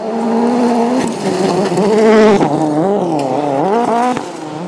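A rally car races past at speed on a misty forestry stage of Rally GB, its engine roaring loud, revs climbing and dropping sharply through quick gear changes, showering stones as it heads off towards a quarry. No one speaks.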